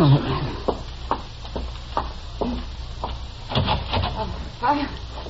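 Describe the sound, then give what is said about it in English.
A door is unlatched and pulled open, with a series of sharp wooden clicks and rattles over several seconds, against a low background rumble. “Open the door, Kitty.”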